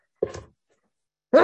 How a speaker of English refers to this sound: I'm going to sneeze.